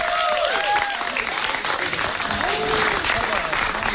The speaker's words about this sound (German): Unter anderem nochmal einen großen Applaus für unseren DJ,